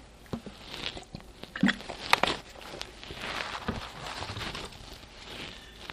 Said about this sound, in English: So the sutra is, let me just sip water.